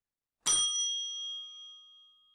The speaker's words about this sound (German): Wenn ich jetzt gleich die Glocke anschlage, dann halten Sie das Video bitte an und überlegen Sie sich, welche Sachverhalte in der Realität zu diesen fünf Buchungen geführt haben. Jetzt kommt die Glocke.